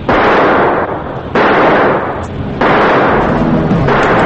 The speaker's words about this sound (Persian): با شلیک چند تیر توپ در اطراف قایق مانع عقب نشینی کشتی قاچاقچی ها بشید.